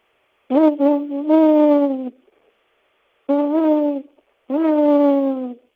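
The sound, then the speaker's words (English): A person imitates an owl with three voiced hoots: a long first call lasting over a second, then two shorter ones after a pause, fairly loud. “and here's my owl sound.”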